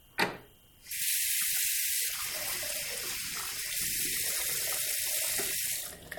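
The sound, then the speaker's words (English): A steady stream of water runs for about five seconds, a broad hissing splash onto a cup of lentils in a plate, starting after a brief clink and fading out at the end. No one speaks. “And then some water on it.”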